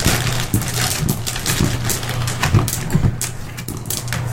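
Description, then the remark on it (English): Several short, hard clicks of a drinking glass knocking against a tooth, irregular, over a low steady hum with no talking. “Let me just bash this glass in my tooth.”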